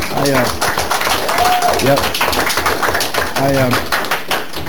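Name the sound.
round of applause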